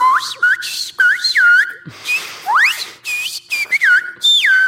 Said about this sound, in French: Et donc, dans cette école, les appels à entrer et sortir de classe seront désormais scandés en silbo. C'est le nom de ce langage sifflé utilisé sur l'île de la Gomera, dans les Canaries. Je vous ferai écouter un petit sifflement.